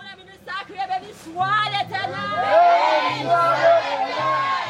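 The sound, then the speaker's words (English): A church audience calls out, laughs, cries and praises loudly while a woman preaches with a microphone, many voices overlapping and swelling into a dense, excited roar, with scattered clapping mixed into the noisy crowd. “The entire congregation is calling out, clapping, laughing, crying, giving praise.”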